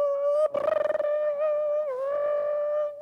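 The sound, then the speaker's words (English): A voice imitates a dial-up modem connecting: a loud, sustained high-pitched whine that opens with a burst of rapid buzzy pulsing, then holds a steady, slightly wavering tone for about three seconds. “You know what it is about dial-up?”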